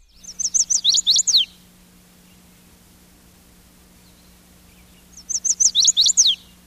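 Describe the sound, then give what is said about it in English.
A chestnut-sided warbler sings its mate attraction song twice, recorded with a microphone in a parabolic dish: a quick run of high, sweet notes ending in an emphatic downslur, with a pause between, over a faint steady hum. “This song, the chestnut-sided warbler's mate attraction song, is transliterated in field guides this way.”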